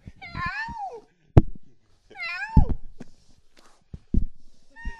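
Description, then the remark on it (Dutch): A playful young cat meows several times, each call a rising then falling wail, with soft thumps and rustling handling noises in between as it plays with a microphone. “Poes wordt heel speels.”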